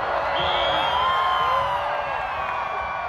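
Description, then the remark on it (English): A large crowd in Saluki Stadium cheers and whoops continuously as the moon slips in front of the sun during a solar eclipse, a dense roar of many voices with high shouts rising over the top, loud and sustained throughout. “Today, the crowds cheer as the moon slips in front of the sun in full view.”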